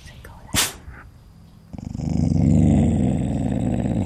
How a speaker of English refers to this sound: A couple of hours later, laying in my tent listening to the night sounds, my dog started growling.